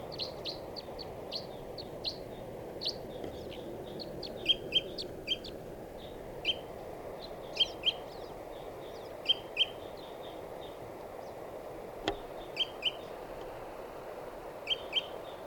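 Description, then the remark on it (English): A wild bird that has swooped in and sits in a dead tree gives repeated high, short calls and chirps in clusters over a steady low background hiss, some in quick double or triple bursts, with no talking. “And the bird came in and swooped around.”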